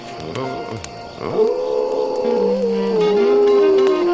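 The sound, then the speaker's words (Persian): A wolf cub howls in one long, wavering call that rises into a sustained, fairly high-pitched tone and holds for a few seconds, preceded by brief softer whimpering sounds. “بعضی وقتا روزه کشیدن یه بچه گرک فرکانسش از صدای بعضی آدم ها بالاتره.”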